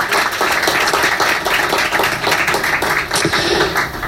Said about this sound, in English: First time we've ever been here at Perrin Brewing Company. How about a big round of applause for Perrin Brewing for hosting us tonight?